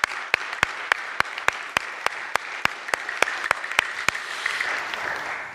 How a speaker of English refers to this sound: Happy Easter Sunday. Can we give a clap offering to the Lord for this Happy Easter Sunday?